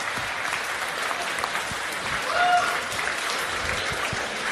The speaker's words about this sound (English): And so I commend you all, each and every single one of you, for being here today, guys. So give yourselves a massive round of applause. Well done.